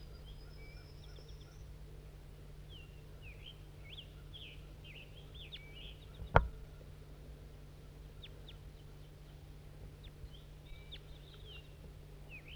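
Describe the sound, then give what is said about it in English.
Short, high calls of a wild female crossbill chirp on and off throughout, scattered and fairly faint over a steady low hum, with one sharp click partway through. No one speaks. “We're recording Crossbill.”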